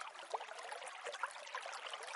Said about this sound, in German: Das Geräusch von klarem Quellwasser maskiert Lärm am besten und mit zusätzlichen visuellen Attributen versehen, sollte die Ablenkung perfekt gelingen.